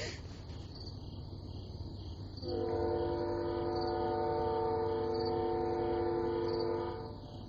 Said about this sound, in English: Yeah, you can hear that train whistle. I can see it on the... VU meter they provide for recording these shows.